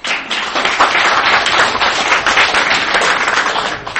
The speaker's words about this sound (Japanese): 役員の方の拍手が多かったようですが、最後もう一度ちょっと確認させていただきたいんです。